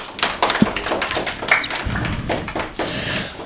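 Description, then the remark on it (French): A burst of audience applause for two players in a game: many hands clapping in a dense, irregular patter that keeps up steadily for a few seconds, with no voices over it. “On peut les applaudir.”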